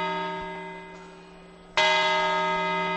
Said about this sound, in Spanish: Séptima campanada, la gente móviles en la mano, tomando las uvas. Siete, ocho. Campanadas, aplaude la gente.